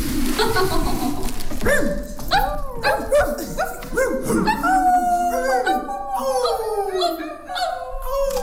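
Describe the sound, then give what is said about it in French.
Several voices howl together like a pack of dogs, overlapping rising and falling wails that continue loudly for several seconds, with no pauses between them. “On a tous un autre enfant qui est encore en nous, qu'on aime accentuer parfois et qu'on s'est tous retrouvés en meute comme les chiens.”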